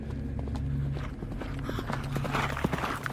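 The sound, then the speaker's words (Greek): Hooves of a greenish-yellow horse clip-clop in a steady, uneven rhythm of sharp knocks over a constant low rumbling drone with no one speaking. “Κοίταξα και είδα ένα πρασινοκίτρινο άλογο.”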